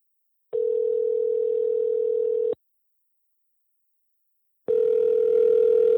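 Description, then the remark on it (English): A telephone line rings on the caller's end during a phone call: two steady, buzzing ringback tones, each about two seconds long, separated by a pause of silence. Clear, with no voices. “Of course, I want to know more about this, so once again, I try to reach John on the phone.”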